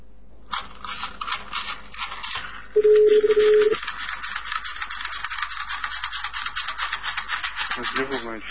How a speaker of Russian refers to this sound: А можешь трехтоновый сигнал также?